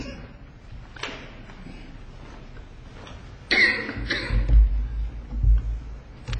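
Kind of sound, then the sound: human body sound, coughing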